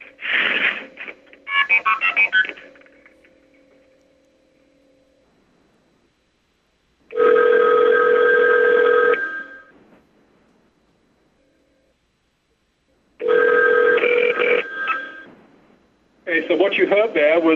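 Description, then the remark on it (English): A quick burst of multifrequency (MF) signaling tones sent from a 5 crossbar switch to a 3 crossbar switch, followed by the called phone on the 3 crossbar ringing in two long, evenly spaced rings with pauses between. A voice begins speaking right at the end. “The MF being sent from the 5 crossbar to the 3 crossbar, and then shortly after that, you heard the phone ringing.”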